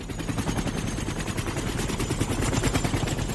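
A helicopter's rotor beats in a fast, steady, heavy chop, loud, holding unbroken for a few seconds with no voices over it, as a general descends the helicopter's gangway.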